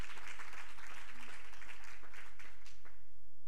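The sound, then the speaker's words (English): A church audience at Wednesday night Bible study claps steadily to Jesus as the pastor comes up, a dense wash of many hands that thins out toward the end, with faint voices mixed in. “Clap your hands to Jesus as Pastor comes this evening.”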